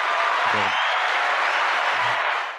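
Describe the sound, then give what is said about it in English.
A canned applause clap track: a dense, steady wash of many hands clapping at an even loudness for the whole stretch, with a couple of brief low vocal bursts mixed in. “Clap track, dude.”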